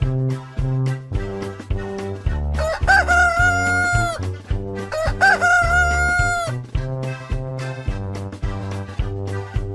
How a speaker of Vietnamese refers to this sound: Gà trống thật siêng năng, chăm chỉ, phải không nào? Chúng mình nhớ dậy sớm để gà trống vui các em nhé.